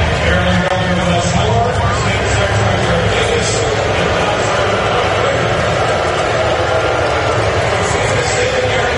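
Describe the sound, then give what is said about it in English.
A large crowd at Oriole Park at Camden Yards boos Governor Moore loudly and without letup, a thick, steady roar of many low voices filling the whole stretch with no pauses or individual speech standing out. “Governor Moore was booed vigorously yesterday.”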